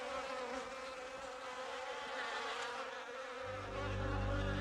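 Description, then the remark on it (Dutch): A dense, steady buzzing of many bees swarming, continuous throughout, with a deeper low rumble swelling in near the end. “De beer kon de zoete honing niet weerstaan en volgde de valk en de bijen in de richting van de twee Bolsjewieken.”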